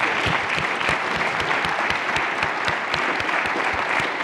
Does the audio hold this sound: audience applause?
yes